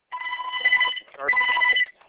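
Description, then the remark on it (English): A telephone rings twice in quick succession in the background of a conference call, each ring a bright, warbling electronic trill lasting close to a second, with a short pause between. The sound is clear and moderately loud, with no talking. “*6 will mute your line, which with the ringing in the background may want to do.”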